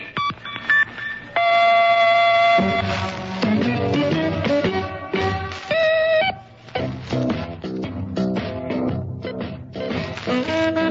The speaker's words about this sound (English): The WHB electronic time tone is accurate to within 1/20,000th of a second. At the tone, exactly 7 o'clock.